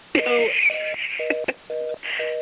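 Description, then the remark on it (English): Repeated electronic telephone-line beeps, steady paired tones pulsing on and off in a regular rhythm, mixed with a faint garbled voice and line noise. “mute that annoying beeping line?”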